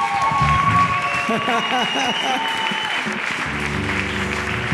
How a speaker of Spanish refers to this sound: este grande aplauso para ti, Jesús. No te canses de aplaudir su nombre, mi hermano.